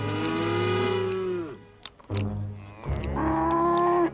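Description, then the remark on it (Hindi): Buffaloes sitting at rest on a road low in long, deep moos: one drawn-out call, a short pause with a few soft knocks, then two more loud bellows. “भीम और विजय की माएं आगे बढ़ती हैं, तो देखते हैं कि रास्ते में कुछ भैंसे आराम से बैठी हुई हैं।”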